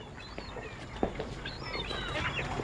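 A cluster of parrots squawks and chatters continuously at moderate volume, their harsh overlapping calls forming a busy flock noise with one sharper squawk standing out early on.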